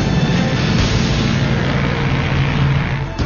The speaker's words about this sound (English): the 215s finally take off and head east over the North Atlantic.